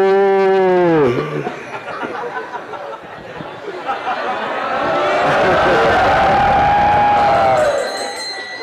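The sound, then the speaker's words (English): A crowd of voices imitates a group of cows wandering along the Jamuna, opening with a loud, drawn-out moo that drops in pitch, then a noisy mass of overlapping moos with a long sustained low call near the end. “Group of cows. And what are those cows doing? Rambamana.”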